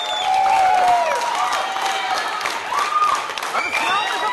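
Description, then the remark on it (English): A crowd of supporters claps steadily and loudly in unison at a hotel in Reykjavik, Iceland, as election results come in, with excited cheers and shouting voices rising over the applause. “This is the scene last April when the election results started to come in at a hotel in Reykjavik where supporters had gathered.”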